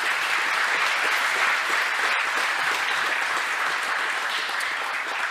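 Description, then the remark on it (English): A large audience applauds the game team of a quiz competition steadily, the dense clapping sustained and fairly loud throughout with no voices standing out above it. “The game team, again, deserves a great round of applause for finding fantastic categories.”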